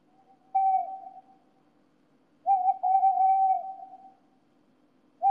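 A bird calls out in a few steady, hooting whistled notes, one short, then a longer drawn-out call, then another starting, fairly loud over a faint low hum, with no talking.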